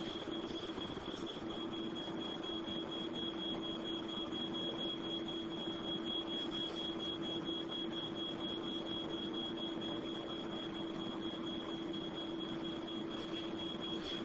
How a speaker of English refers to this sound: The smoke alarm on the second floor now activates. This is the alarm the family heard.